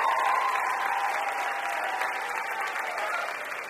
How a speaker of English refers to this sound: Please give a round of applause. They're great.